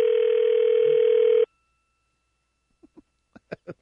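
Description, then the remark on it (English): An outgoing telephone call to a cell phone: the line gives one steady, buzzy ring tone for about a second and a half, then cuts off. Silence follows, then a few quick soft clicks near the end. “I wonder if he's turned off his cell phone.”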